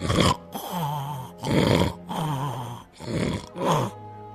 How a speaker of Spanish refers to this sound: Cuando terminó el banquete, volvió a su habitación y enseguida se oyeron unos ronquidos que temblaba toda la casa.